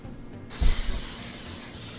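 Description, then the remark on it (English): After a brief quiet moment, an aerosol can releases a steady hissing spray of cooking oil onto a baking tray being prepared for roasting pumpkin seeds, continuing evenly with a soft thump near its start. “So now we have to spray the tray.”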